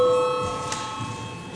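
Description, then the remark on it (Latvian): A bell in the Latvian parliament (Saeima) chamber rings with a steady, sustained metallic tone that fades slightly over a second and a half, with no talking. “Lūdzu, zvanu.”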